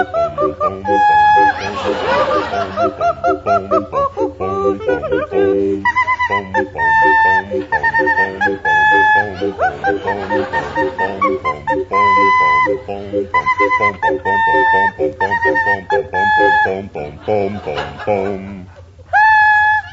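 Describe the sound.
High, chirping notes played on a whistle mimic a mockingbird's song, rapid warbling trills alternating with held tones, over a steady low backing drone that carries on without pause.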